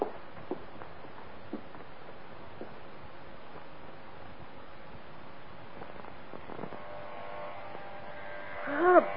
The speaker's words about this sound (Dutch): Ik word wakker door dat scheerapparaat. Waarom maken ze die dingen niet met geluidsdempers erop?